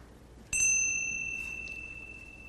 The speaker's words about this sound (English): Well, let's just end with a 10 breaths. So I'll ring the chime.